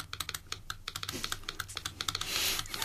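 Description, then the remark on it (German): A Morse key clicks out a CQ call, a general call, in quick, uneven bursts of sharp mechanical taps, with no voices, and a soft hiss swells briefly near the end. “Ich habe hier eine Morsetaste, ich gebe dir die Morse mal was, ob das jemand versteht.”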